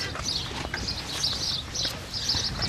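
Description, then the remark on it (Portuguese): Birds chirp in repeated bright bursts outdoors, fairly steady over a low rumbling background of ambient noise, with faint clopping sounds mixed in. “Tens uma entrevista cheia de pássaros.”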